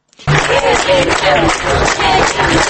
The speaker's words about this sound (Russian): На улице Ленина, возле ресторана «Макдональдс», группа людей из 30-40 человек примерно через полчаса после начала акции стала хлопать в ладоши. Они непрерывно хлопали около 10 минут, несколько раз проскандировали «перемен» и начали расходиться.